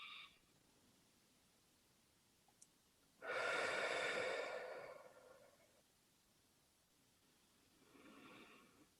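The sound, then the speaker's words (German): A slow, audible breath cycle during a breathing exercise: a long, airy exhale swelling then fading over a couple of seconds, followed later by a softer breath, with no talking. “Also ich mache eine Faust und beim Ausatmen auf.”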